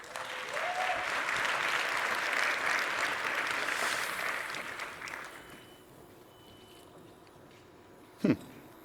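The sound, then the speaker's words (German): A crowd applauds steadily for about five seconds for colleagues from CERT, a dense wash of clapping that gradually fades out, followed by quiet room tone and a brief loud knock near the end. “Dankeschön, nochmal großer Applaus.”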